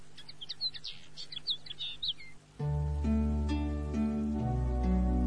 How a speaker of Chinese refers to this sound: 小熊妹妹的手指上停着一只小麻雀，因为它有条腿受了伤，所以贝贝熊一家收养了它。